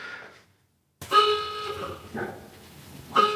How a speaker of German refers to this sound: Dann geht immer so eine Tröte an, dann wusste ich, okay, die Kleine ist fertig, ich darf jetzt kommen.